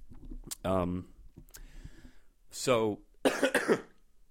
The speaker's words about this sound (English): this cough is fucking sucks. For the past week since I've been in Norway, I've developed a cough, and it's a little hard for me to breathe. I have asthma, so my theory is that I'm somehow in a higher altitude in Oslo, as opposed to being in Sweden.